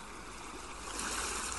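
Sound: ocean surf waves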